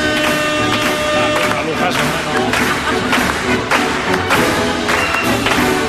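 Steady audience applause, a dense wash of many hands clapping with sharp individual claps standing out, holding at an even, fairly loud level over some sustained tones beneath.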